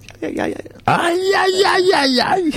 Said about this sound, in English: We love to yell. We love a good yell.